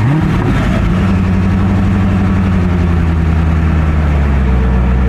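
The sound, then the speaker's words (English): The engine of a new Corvette C8 convertible revs loudly, its deep rumbling note climbing in the first second, then settling into a steady, throaty drone. No one speaks. “It's a C8 car convertible, and it's probably the most advanced technology of a car I have ever seen in my life.”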